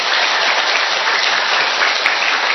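A crowd at the Tin Mừng mission station in Hiệp Phước commune claps steadily to thank local officials for their Tet visit and gifts, a dense, even wash of applause from many hands that holds at full strength throughout without any voices.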